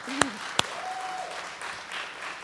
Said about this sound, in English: And would you guys just clap for them again, because I'm just so proud of them.